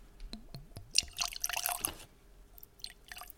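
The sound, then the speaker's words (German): Liquid is poured into a glass: a few quick gurgling glugs with rising bubbly tones, then a splashy, fizzing rush that tapers into fainter trickles and drips. No one speaks. “Du musst auch eingießen.”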